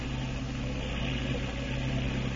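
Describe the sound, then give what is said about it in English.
A motorboat engine drones steadily with a low, layered harmonic hum and a faint rough edge, holding an even loudness throughout with no voices. “Sounds like that boat's in trouble. Can you make out where it is?”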